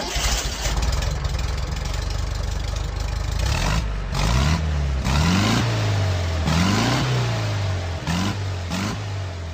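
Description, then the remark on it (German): The engine of the Porsche 356-001, a small sports racing car built from Volkswagen parts, revs hard, its pitch surging and dropping again and again in quick bursts over a loud, throaty idle, with no voices. “Als der kleine Rennwagen mit der Fahrgestellnummer 356-001 im Juni 1948 zum ersten Mal die Werkstatt verlässt, warten jedoch keine Journalisten und Fotografen.”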